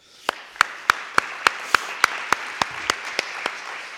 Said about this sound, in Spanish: Gracias, muy amable. Y un aplauso, por favor.